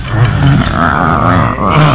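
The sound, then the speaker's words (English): A person growls deeply and continuously for about two seconds, a loud, rough, guttural voice rising and falling in pitch, with no other sounds around it. “Hear a growl?”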